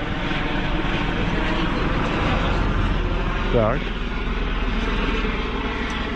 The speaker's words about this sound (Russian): Вертолет, друзья...